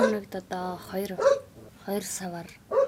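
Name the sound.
dog barking continuously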